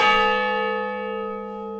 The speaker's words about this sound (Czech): Tak měli jsme to štěstí, že odbyla čtvrt hodina. Je to silný zvuk, byla jsem přímo u zvonu, až jsem se lekla.